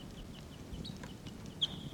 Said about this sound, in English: That was 306. The type 4 call. 384. Wild birds calling. Wild birds there.